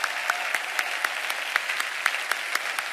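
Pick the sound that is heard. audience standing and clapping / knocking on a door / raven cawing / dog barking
audience standing and clapping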